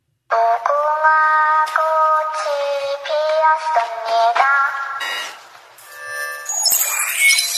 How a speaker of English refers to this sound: Do you want a Squid Game alarm clock? Here's what it sounds like.